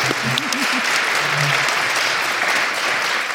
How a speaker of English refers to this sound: A big round of applause for our panel here this afternoon.